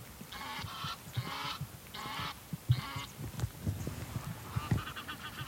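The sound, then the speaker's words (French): Egyptian geese, an exotic species with an invasive tendency at the site, call in four loud, harsh honks at a steady rhythm, then a few fainter calls follow over low outdoor background noise. “Malheureusement, c'est une espèce exotique et qui a une tendance envahissante en plus sur le site.”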